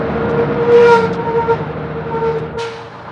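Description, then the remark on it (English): A bus from Madison City rumbles with a steady droning engine hum, slowing down, then a short burst of hissing near the end as it comes to a stop. “Just before school started on Monday morning, a very good-looking blonde boy stepped off the bus from Madison City.”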